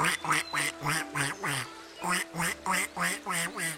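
Ducklings quack in a rapid, steady series of about a dozen nasal calls, fairly loud, with a brief pause midway before the rhythm resumes, on the bank of the Liuyang River in China.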